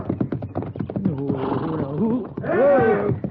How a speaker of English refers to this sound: What's that? A don't know. Sounds like Stokes. Yeah, over there by the corral. Come on, let's go. Yeah. Well, that horse is stomping him.